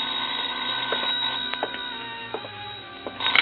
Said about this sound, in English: I was about to go downstairs when the phone rang.